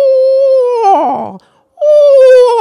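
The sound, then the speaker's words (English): Children's voices imitate a screech owl's whinny: a loud, high wavering tone that slides downward and trembles, breaks off briefly, then a second steady high call starts. “This owl sounds up high and then it drops down. So it makes like a whinny sound.”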